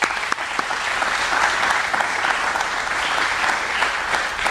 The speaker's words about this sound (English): So I truly want to thank you on behalf of the board of directors. You know, give you a round of applause. Thank you.